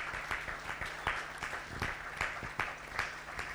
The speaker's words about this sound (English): Would you give the Lord a round of applause for what he's doing in you and through you?